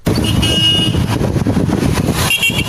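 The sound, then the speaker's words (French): Busy street traffic on Avenue Charles de Gaulle (Avenue des Banques), second arrondissement of N'Djamena, Chad, a heavily used stretch reopened after roadworks: a steady loud rumble of cars and trucks, with short horn toots and tonal honks rising above the engine noise at several points. “Travaux terminés, ce tronçon très fréquenté a été réouvert à la circulation au grand bonheur de la population.”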